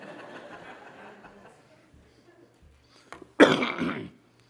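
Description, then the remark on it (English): A single loud, harsh cough bursts out after a stretch of quiet murmuring, rasping for under a second before fading. “And I've got a cough. Please excuse it.”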